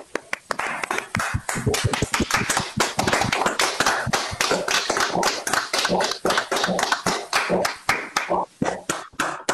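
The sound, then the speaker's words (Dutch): Sustained digital applause for a departing member at a meeting, dense overlapping claps forming a steady crackling roar for about ten seconds, fairly loud, with no one speaking over it. “Mooi, een digitaal applaus.”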